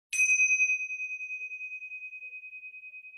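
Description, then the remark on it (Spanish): A single bell is struck once during a guided meditation exercise, giving a clear, pure ring that hangs in the air and fades slowly with a gentle wavering shimmer. No voices are heard. “Y cuando vuelvas a sentir la campana, vamos a permanecer en esta experiencia que estamos sintiendo ahora.”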